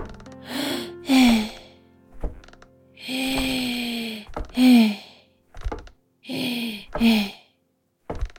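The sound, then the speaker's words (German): Heavy, laboured panting: about seven strained breaths with groaning voiced tones in a steady rhythm, a few soft thuds between, from a woman groaning as she climbs wooden stairs. “Im Wäschekorb im Schlafzimmer lauschten vier Sockenohren dem Schnaufen auf der Treppe.”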